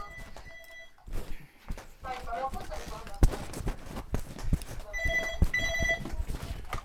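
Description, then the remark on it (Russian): An electronic doorbell rings in two short bursts of steady, high tones, with muffled voices, knocks and shuffling movement in between. “Продолжайте общаться, мне звонят в дверь, я на 2 минуты буквально.”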